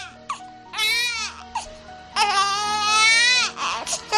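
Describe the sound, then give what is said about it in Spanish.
A baby cries in two long, wailing bursts with brief breaths and short whimpers between them, loud and strained, with no talking. “Nadie pone en duda que el llanto de un niño, pues oye, es un poquito molesto.”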